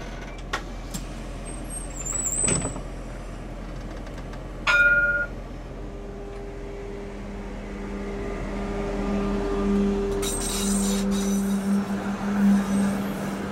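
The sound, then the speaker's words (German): A tram rolls past, its low rumble swelling over several seconds while thin, high metallic squeals of wheels on rails ring out, with no talking. “Dafür ist die Tram sehr praktisch. Not praktisch, ja. Hui. La Tram.”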